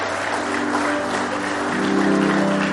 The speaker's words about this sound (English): Somebody say praise the Lord. Somebody say praise the Lord. I'll give him one more hand clap of praise tonight.